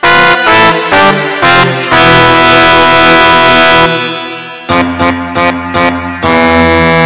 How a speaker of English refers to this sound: So anyway, I got my keyboard here. Working up a trumpet sound on the MIDI. It's a Korg LE M1.